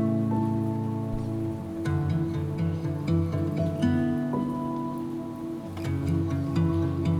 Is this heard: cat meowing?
no